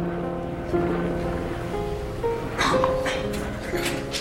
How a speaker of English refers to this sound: This is audio of Warren being flown in on a helicopter from the jail in Hurricane, Utah. The jail is called, and I'm not kidding here, purgatory.